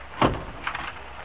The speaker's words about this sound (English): Open the door.